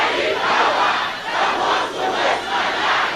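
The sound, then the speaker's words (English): A large audience shouts loudly together with holy anger, repeating a prayer after the preacher: a dense, roaring wall of many voices sustained for a few seconds with slight swells and dips in intensity, like a collective battle cry. “Can you shout it louder than that?”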